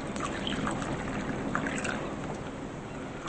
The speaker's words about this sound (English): Neil pours coffee.